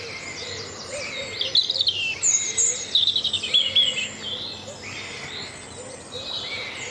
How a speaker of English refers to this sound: So we're going to leave you now with the real stars, the birds whose song is the hopeful sound of a new day and a new month dawning.